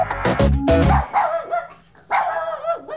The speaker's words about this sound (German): Ja, sie machen zwar auch schon zünftig Mais, aber sie sind vor allem eins wahnsinnig herzig. Hundewelpen.